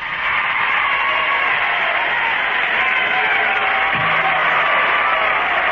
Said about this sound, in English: That's a great crowd, isn't it? Yeah. Well, I'm not going to tell you where it came from.